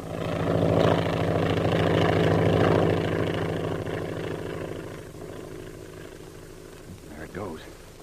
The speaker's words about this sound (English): Air wagon. Say, what's that airplane doing around here?